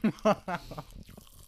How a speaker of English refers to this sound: Well, welcome back to Pop Rocks and Bleach, the only podcast on the air that's providing free Pop Rocks ASMR.